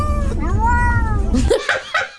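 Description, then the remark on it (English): Romeo, a cat in his carrier on the floor, lets out a long, drawn-out meow that rises and falls in pitch, almost like a questioning hello, followed by a few shorter, choppier sounds. “He's like, hello, do you hear me down here?”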